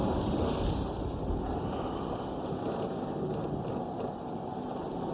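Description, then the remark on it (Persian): Steady wind roars around a ship at sea while waves wash and surge continuously beneath it, a dense, unbroken rumble with no voices. “اینجا دریاست، قانون خودشو داره.”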